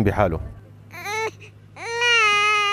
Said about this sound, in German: Die Kleine weint viel.